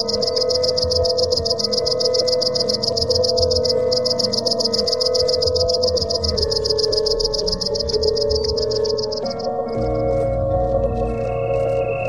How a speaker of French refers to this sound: Une grande sauterelle verte.